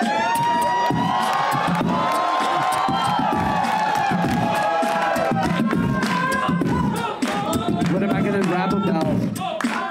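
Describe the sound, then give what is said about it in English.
A man beatboxes on stage on the Dr. Phil TV show, with punchy percussive thumps and vocal hums pulsing steadily while a loud studio crowd cheers and shouts around him throughout. “Phil, can we at least hear him beatbox first to see if.”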